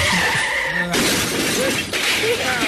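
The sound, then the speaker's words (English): A car skids with a squealing whine, then crashes loudly into a light pole on Hillsborough with a burst of shattering glass, followed by a second crunching impact and scattered debris, loud throughout. “And he got into the car, and he crashed into a light pole on Hillsborough.”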